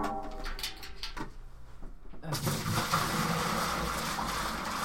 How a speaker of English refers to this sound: Okay. Just some hot water. Sound effects. Nick just poured a shit ton of hot water in a thing. I think Nick is actually making some beer as we sit here in our recording studio.